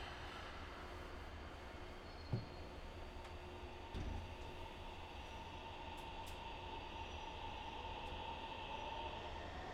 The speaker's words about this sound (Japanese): この電車は福岡天神行き急行です。まもなく発車いたします。